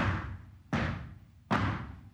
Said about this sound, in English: We did some group stomps to get that sort of wall of sound vibe.